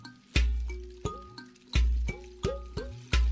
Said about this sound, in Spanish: Hay varios instrumentos de percusión. Escucho una calimba. Palos de lluvia. un tambor de sonido profundo y metálico. ¿Qué elemento estará representando? ¿Ya se dieron cuenta? Es el agua.